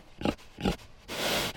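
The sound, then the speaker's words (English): A herd of pigs grunt twice in short, low bursts, followed by a longer, breathy snort, all fairly loud with no talking. “The pigs had human faces.”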